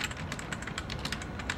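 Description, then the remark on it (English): Rapid, steady clicking of keys on a computer keyboard as delicate slim fingers type, fairly loud, forming a continuous stream of taps with no voices. “Delicate slim fingers type on a keyboard.”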